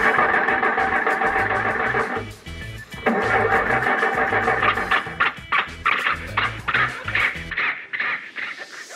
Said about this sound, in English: Let's get going. Start the car, Rochester. Yes, sir.